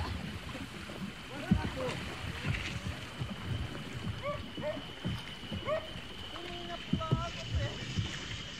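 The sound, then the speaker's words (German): A boat carrying a boatman and several hunters moves along a river in the Brazilian rainforest with a steady drone and continuous water wash, while faint voices and short calls come and go in the background. “Im Boot sind außer mir der Bootsmann und einige Jäger.”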